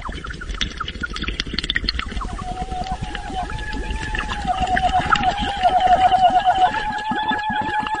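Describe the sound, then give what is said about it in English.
Underwater mouth-to-water singing by a woman in the 2009 opera You Who Will Emerge from the Flood, making bumblebee-like noises: a wavering, buzzy sung tone that warbles through the middle, carried over a constant bubbling, crackling wash that grows louder toward the end. “The voice that you're hearing in this is actually the underwater, mouth-to-water singing that we were discussing earlier.”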